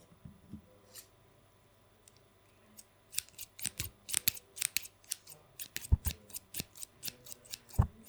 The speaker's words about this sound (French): Des ciseaux.